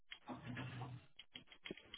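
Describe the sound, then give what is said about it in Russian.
Quick, irregular clicking and tapping of fingers typing on a computer keyboard, moderately loud, with a low murmur underneath in the first half. “Клавиатура.”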